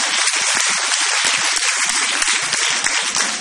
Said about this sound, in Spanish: Hablando de aplausos.